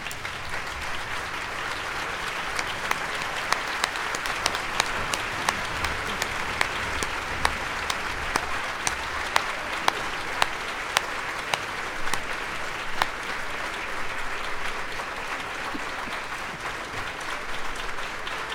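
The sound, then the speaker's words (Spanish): Sustained standing ovation from a large theatre audience on the theatre's 130th anniversary, for historian Eusebio Leal Spengler: a dense steady wash of clapping with sharp individual claps popping out, holding at an even level for the whole stretch with no talking. “Y yo les pido a aquellos que puedan que se pongan de pie y le den un gran aplauso a nuestro gran historiador, doctor Eusebio Leal Spengler.”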